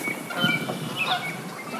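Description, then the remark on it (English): A flight of geese honks, a scattered flock calling over one another in faint, overlapping cries against a steady outdoor hiss, with no one speaking, in a spring forest of maple and oak beside a cold snowmelt river. “A big woodpecker sounds, and then a flight of geese.”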